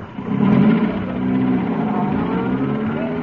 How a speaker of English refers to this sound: Good Lord, sir. Jonesy's driving off with a live grenade in the van. But there are 200 grenades in that van.